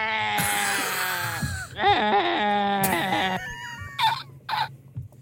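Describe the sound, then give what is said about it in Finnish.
A person imitates a sheep in an animal-imitation karaoke with several wavering, nasal bleats in a row, loud, each rising then trailing off, with short pauses between. “Seuraava lammasta käy.”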